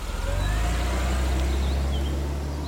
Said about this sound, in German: Onkel Eduard buxierte ihn in das Auto und stieg dann selbst ein. Und los ging die Fahrt.